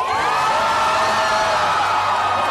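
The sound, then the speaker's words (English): A large crowd in Tel Aviv cheers and whoops in celebration of the release of hostages, many voices overlapping in a loud, sustained roar with high shouts rising above it throughout. “Crowds gathered in Tel Aviv to celebrate the release of more hostages.”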